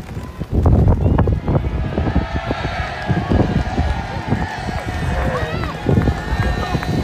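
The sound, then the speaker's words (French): Gusty wind roars and buffets the microphone outdoors in the grandstand of a racecourse near Mont-Saint-Michel, a loud, continuous rumble with a faint murmur of about 250 film extras talking underneath, during filming of the film Tempête on 20 May 2021. “Des figurants heureux d'être là, mais aussi du vent, comme on peut l'entendre dans cette vidéo tournée par un journaliste de West France.”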